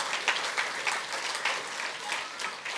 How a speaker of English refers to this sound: Before we get going, I want to just say, could we give our kids one more round of applause? That was awesome.